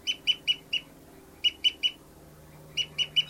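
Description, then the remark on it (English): A bird, the female numbered 274 from Kansas, gives a souping call: short, high, nasal notes repeated in three quick bursts of three or four, with pauses between, over a faint low hum. “Souping now, I think, by bird 274, the female.”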